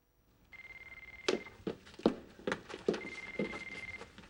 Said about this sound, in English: Barney's phone's ringing somewhere in the apartment.